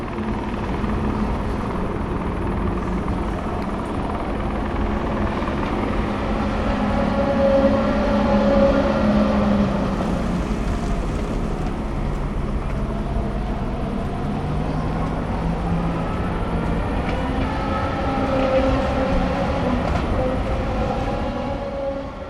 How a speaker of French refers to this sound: Et oui, je crois avoir oublié de vous dire que, ben, au-delà du grillage et de la rocade, il y a le mur d'enceinte du circuit. Et donc, juste après, ben, les bagnoles qui tournent le plus vite possible, puisque c'est le but.